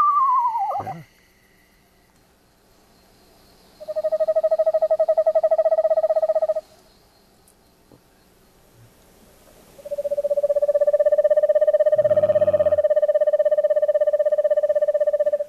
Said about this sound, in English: There we go. The Eastern Screech Owl. Pretty song, isn't it? Yeah, it really is. It's very musical.